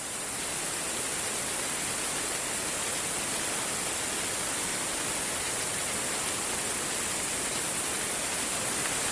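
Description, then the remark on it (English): A dense, steady whooshing roar of thousands upon thousands of bats flying overhead, sounding much like rushing water, constant and unbroken throughout with no voices. “Sounds a bit like rushing water, but actually it is thousands upon thousands of bats flying overhead.”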